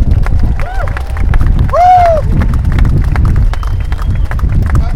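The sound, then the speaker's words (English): An audience claps steadily for several seconds as ASLEF president Tosh McDonald is welcomed as the first speaker, a dense wash of many hands at an even loudness, with a couple of brief whistles and cheers rising over the applause. “You shouldn't start clapping, you haven't heard what I've got to say yet, you might not like it.”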